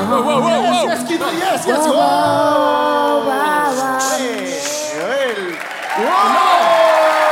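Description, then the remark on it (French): An audience claps steadily after a verse of a song, in a dense wash of noise, mixed with voices and cheering that rise and fall over it, swelling again toward the end. “N'applaudissez pas ce contenu, c'est hérétique.”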